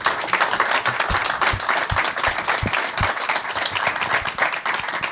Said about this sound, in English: They're not booing you, Gary. We love the cheers.